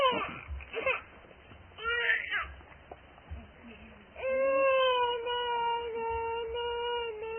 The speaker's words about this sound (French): Les bébés qui pleurent comme ça.